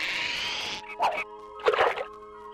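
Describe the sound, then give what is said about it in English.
A fishing line is cast with a virtual fishing rod plug-in in the video game Fisherman's Bait, a bass challenge: a brief hissing whir, then it lands in water with two soft, splashy plops about half a second apart. No one speaks. “With tackle boxes full of bait and bellies full of the $4.95 breakfast special, they cast.”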